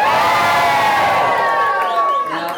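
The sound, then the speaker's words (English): A crowd at a show, including the presenter's program students, cheers loudly, many voices shouting and whooping together in a sustained, high-pitched roar that holds steady before easing off slightly near the end. “I did pay a few of them to cheer at the show.”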